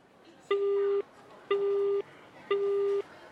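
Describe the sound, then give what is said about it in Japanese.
After a phone call is hung up, a telephone busy tone sounds three times in an even rhythm, each steady electronic beep lasting about half a second with equal pauses between, clear and fairly loud over faint background hiss. “電話を切った同盟機はそれを胸元にしまった。”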